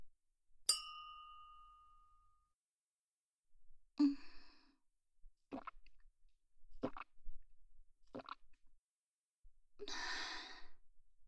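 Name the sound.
glasses clinking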